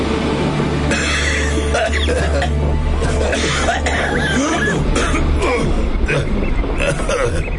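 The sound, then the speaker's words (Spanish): A series of short, hollow, chesty coughs and throat-clearing sounds, fairly loud, repeating at uneven intervals over a low steady background hum. “Ni una palabra se cruzaba entre ellos, y de cuando en cuando, tras una tos breve y cavernosa, sus labios cerrados se entreabrían para dar paso a un escupitajo negro con la tinta.”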